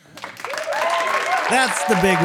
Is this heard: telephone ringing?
no